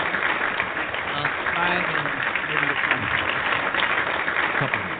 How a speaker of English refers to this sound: Is there any is there any applause or yells or cheers or anything like that?